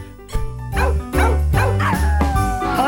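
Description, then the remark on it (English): A female dog plays with a squeaky wubba toy, egg-shaped with a long tail, producing a rapid, uneven series of sharp squeaks over a steady low hum, with no talking. “It's a egg-shaped toy with a long tail, and as you can hear, she absolutely loves it.”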